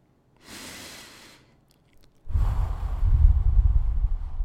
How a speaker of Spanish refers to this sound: Bueno, ahora concéntrate en la respiración. Concéntrate en tomar aire por la nariz y largarlo por la boca.